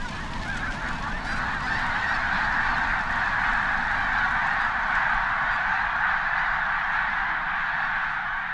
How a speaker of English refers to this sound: The sun was setting behind a sea of pink and steel-gray clouds at the Blackwater National Wildlife Refuge on Maryland's eastern shore when a few dozen, then hundreds, then thousands of migrating geese rose into the sky with an explosion of wings.